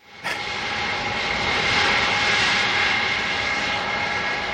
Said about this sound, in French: Donc, on va vous rappeler un petit souvenir avec un avion qui va extrêmement vite.